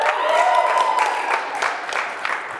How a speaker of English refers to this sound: Now you Wisconsin people can cheer. Go ahead, yeah.